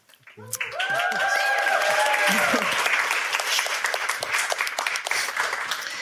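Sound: audience clapping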